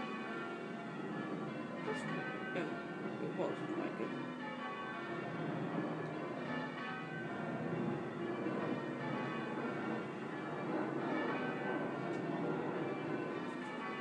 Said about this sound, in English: Bdoing! Bdoing, yeah. It really was awful. There were like three of the bells kind of bdoinging all at once, yeah.